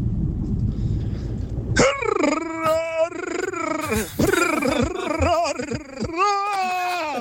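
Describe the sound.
After a low rumbling start, a person voices a llama impression: a loud, nasal, wavering hum-like bleat in several sustained bursts with brief breaks, the pitch sliding up and down.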